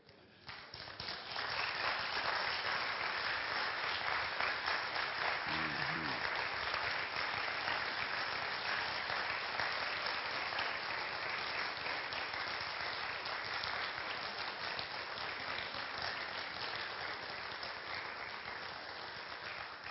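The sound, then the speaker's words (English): An audience applauds steadily for about twenty seconds, a dense, even wash of many hands clapping that starts abruptly and holds at a strong, constant level without fading. “I'm not real sure what that applause is about, but it feels a lot like, okay, you go first.”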